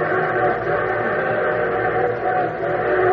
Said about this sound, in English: So your train whistle sounds closer. Well, of course it sounds closer. It's going to pass within a mile and a half of it.